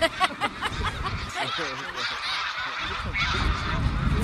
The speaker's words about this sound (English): But yes, those birds are leaving. You notice the V formation? Yeah. You see how one arm of the V is longer than the other? Yeah. They've actually figured out why that is, why one arm is longer than the other. The longer arm has more geese in it.